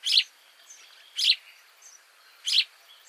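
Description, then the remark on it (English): Eurasian tree sparrow calls: three short, bright chirps spaced roughly a second apart, with a few faint twitters in between and no other sound. “In Lafayette Park in St. Louis, Missouri, a dozen or so Eurasian tree sparrows from Germany were released.”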